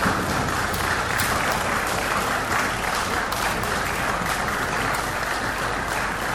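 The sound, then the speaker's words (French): Members of parliament in the Central African Republic applaud in acclamation as they adopt a law against human trafficking: sustained, dense, steady clatter of many hands clapping at once with no pauses, loud throughout. “Eh bien, les députés ont adopté par acclamation cette loi relative à la lutte contre la traite des personnes en République centrafricaine.”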